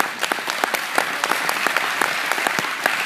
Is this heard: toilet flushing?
no